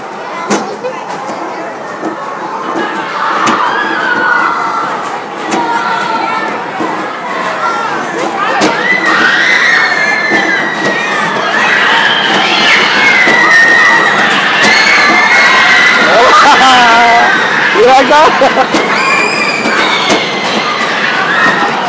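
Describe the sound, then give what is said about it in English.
A crowd of riders screams and shrieks continuously over the loud rumble and rattle of the fast-moving gorilla ride at Discovery Kingdom, the high wavering cries overlapping and rising in intensity throughout. “I wanna hear the scream.”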